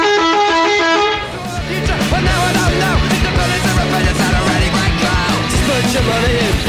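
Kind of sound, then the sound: vehicle, bus horn honking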